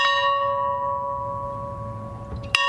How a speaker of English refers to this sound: Bells at the Georgia farmhouse where President Jimmy Carter grew up tolled today as remembrances began.